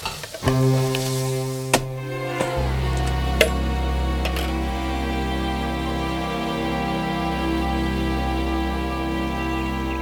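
Fried eggs for breakfast sizzle in a pan with a steady, crackling hiss over a low, even hum, broken by a few sharp clicks and clatters. No one speaks.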